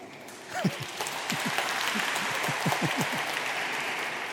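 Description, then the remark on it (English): An audience bursts into hand clapping, a dense, steady patter of many hands that swells quickly and holds at an even level throughout, with no voices rising above it. “The Bible says in Psalms, if you want to clap hands, really clap them.”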